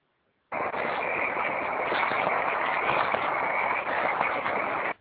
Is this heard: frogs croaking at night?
yes